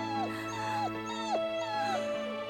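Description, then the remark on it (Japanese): A dog whimpers in a series of about four high, thin whines, each sliding downward, repeating steadily over a faint constant background hum. “犬さんだよ、お母さん。”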